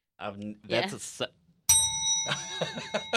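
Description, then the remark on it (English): A single bright bell, used as an 'aha' bell, is struck partway through, ringing loudly with a long shimmering sustain while voices keep talking over it; speech also comes just before the ding. “I got dinged. That's our aha bell.”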